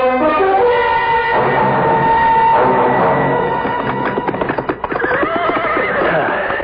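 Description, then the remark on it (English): Horses whinny loudly and repeatedly, their high, wavering neighs layered over each other, while hooves clip-clop in a busy rhythm. No one speaks. “The horses we can set free.”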